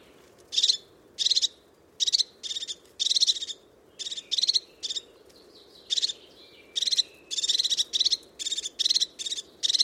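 A crested tit gives short, sharp, high-pitched trilling calls, repeated in quick bursts with brief gaps, clear over a low, steady outdoor rumble.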